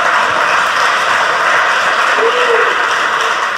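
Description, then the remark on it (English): Steady applause from a crowd fills the whole stretch, a dense, even wash of many hands clapping at a constant loudness without a break. “Are you clapping because that was good?”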